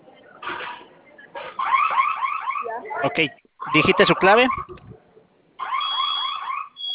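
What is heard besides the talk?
home security alarm sounding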